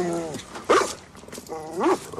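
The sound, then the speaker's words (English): A pit bull named Captain Crunch growls in two rising, snarling bursts, a low rumbling undertone between them, with no one talking. “Nice dog.”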